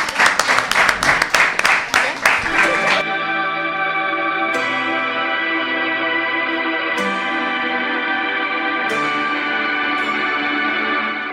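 A short burst of audience applause, quick loud claps for about three seconds, gives way to sustained, ringing bell-like chime tones that strike again every few seconds.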